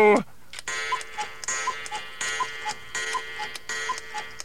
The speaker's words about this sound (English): That clock you're installing in Tweeter. Yes? Yes, what's the matter with it? It's a cuckoo clock.